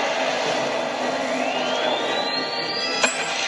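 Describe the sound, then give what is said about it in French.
A film shark's loud, harsh scream of pain: a sustained roaring rush with a thin whine that climbs steadily in pitch, then a sharp crack just before it ends. No one speaks. “Ce râle de douleur voilà. De requin, c'est le seul requin d'histoire du cinéma qui fait gueule.”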